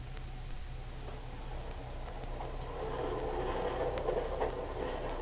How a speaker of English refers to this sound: Our story opens on the Canadian National train approaching Renfield.